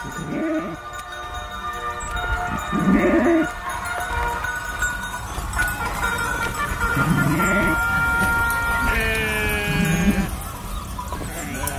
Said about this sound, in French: Alors, au même moment où les moutons rentrent et qu'on a toutes les cloches des moutons